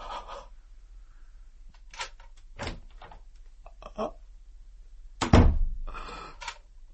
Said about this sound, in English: When a door closes in a darkened room, can you ever be sure, really sure, whether it was someone going out or someone coming in?